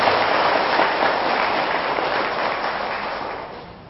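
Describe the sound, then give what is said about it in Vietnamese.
A large crowd applauds steadily in a dense, sustained wash of clapping that stays loud for several seconds, then gradually thins and fades toward the end. “Thì quý vị hãy dâng cho một tràng vỗ tay thật lớn để tham gia được.”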